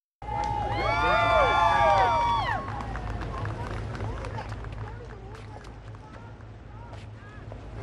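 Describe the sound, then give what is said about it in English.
A crowd cheers loudly as President Trump and First Lady Melania arrive at a Christmas Eve church service at Family Church in West Palm Beach, Florida, with high rising whoops and shouts for the first couple of seconds, then a steady roar with scattered sharp sounds. “President Trump and First Lady Melania were greeted with cheers as they attended a music-filled Christmas Eve church service at Family Church in West Palm Beach, Florida.”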